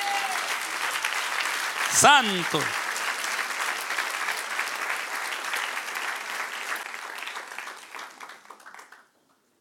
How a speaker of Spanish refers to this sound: a darle un aplauso al que reina.